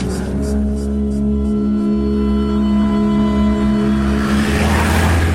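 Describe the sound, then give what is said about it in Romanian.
A taxi engine drones steadily as it heads toward the city centre in heavy traffic, a low humming rumble that holds throughout, with a brighter rushing noise swelling near the end as the vehicle moves through traffic. “Taxiul a luat-o spre centru, iar traficul e o nebunie.”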